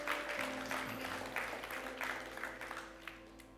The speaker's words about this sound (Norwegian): Kan vi ikke gi en god applaus til alle de som har bedt frelsesbønn i dag?